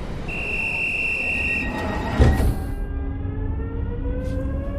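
A train rolls by on the rails with a steady low rumble, a high metallic whine that cuts out, a brief clatter midway, then gliding tonal hums as it passes.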